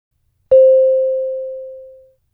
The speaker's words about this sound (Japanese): 2人の会話は問題用紙に示されている順に進み、空欄のところでは次のチャイムが鳴ります。